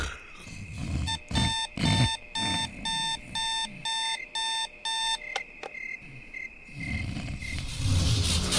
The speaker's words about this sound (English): I could let you know that you probably shouldn't hit the alarm clock anymore. Its red numbers are glowing a little brighter, and I can feel that it's angry. It wants something.